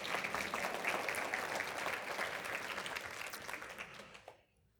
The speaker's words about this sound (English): You can clap.